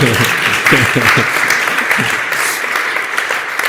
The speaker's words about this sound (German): Und es gibt, könnt ihr ruhig mal klatschen. Ja.